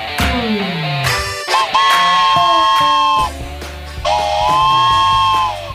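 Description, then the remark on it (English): A train whistle is blown in a few long, loud blasts, its chord-like tone bending slightly in pitch between bursts, with no one talking. “You know, a funny story is I had to quick run out during that commercial break to go get my train whistle.”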